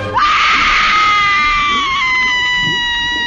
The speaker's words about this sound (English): Your screams are most appropriate.